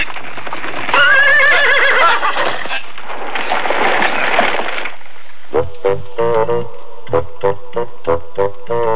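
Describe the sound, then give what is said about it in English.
A horse lets out a long, loud, quavering whinny, then its hooves pound in a quick, steady rhythm as it gallops off, with no voices. “Now go, horse, go.”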